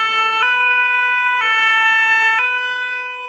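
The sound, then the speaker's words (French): A truck siren blares, loud and steady, switching back and forth between two pitches in a slow hi-lo pattern, with no voices over it. “Et le camion de Léon.”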